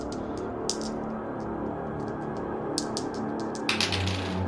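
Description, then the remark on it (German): A twenty-sided die is rolled for a tabletop role-playing game check, clattering across a hard surface in a quick series of sharp, irregular clicks and taps that settle after a few seconds, with a steady low background hum. “Einen Geistcheck gegen einen W20, bitte.”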